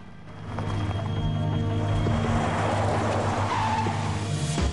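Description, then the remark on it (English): A car engine roars and the car pulls away as a woman drives off, its loud steady drone holding for several seconds with a hint of tires scraping on the road. No one speaks. “She breaks free and runs to her car. He gazes after her as she drives off.”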